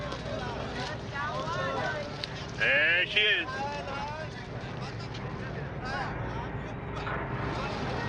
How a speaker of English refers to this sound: My new Southern Belle is one of the fastest boats in the water around here.